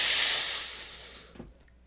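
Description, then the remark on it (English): A person imitates the hiss of a walk-through body scanner that scans temperature and sniffs for alcohol: a long, breathy, high-pitched hiss that fades over about a second and a half, then cuts off with a soft low puff at the end. “When you walk through, you hear it go.”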